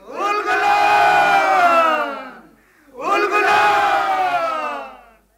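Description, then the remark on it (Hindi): A large crowd of Munda people roars the battle cry "Ulgulan" (revolution) twice, echoing through the forests of Singhbhum, Chaibasa and Ranchi. Each long, loud collective shout swells and falls away, with a brief pause between the two. “मुंडाओं की उल गुलान यानी क्रांति की पुकार से सिंहभूम, चाईबासा और रांची के जंगल गूंज उठे।”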